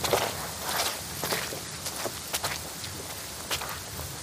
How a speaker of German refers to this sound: So schnell wie möglich stapfen sie über Grasbüschel im Zickzack an den tropfenden Kiefern vorbei.